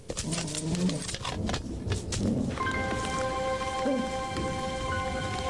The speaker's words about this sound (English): Hey, you guys, it's starting to rain. We better go in the house or we'll get all wet.